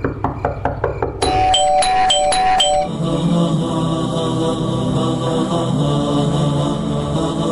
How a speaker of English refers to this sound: there is a loud banging at the door. And the bell rings incessantly.